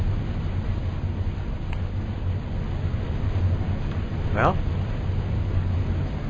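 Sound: airplane engine revving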